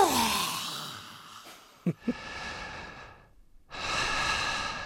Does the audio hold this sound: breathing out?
yes